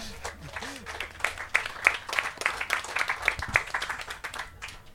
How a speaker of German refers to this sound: Auch das einen Applaus wert.